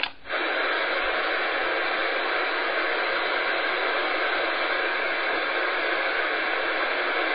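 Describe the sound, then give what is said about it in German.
Steady, loud hiss of static fills an open amateur radio channel during an evening radio round, a broad unbroken rush of noise lasting throughout after a brief dip at the start, with no voices coming through. “Nein, noch nicht, da ist bis jetzt noch großes Rauschen.”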